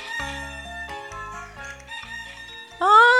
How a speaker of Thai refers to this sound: เสียงไก่โกงข้อขันสลับกับเสียงกรี๊ดของนาฬิกาปลุก